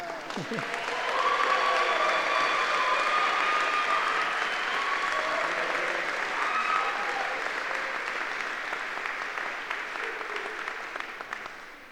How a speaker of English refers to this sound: And now you may clap.